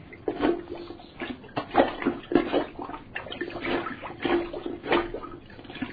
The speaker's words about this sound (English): It seems that your toilet is clogged, and that's why it won't flush. Let me just get my plunger.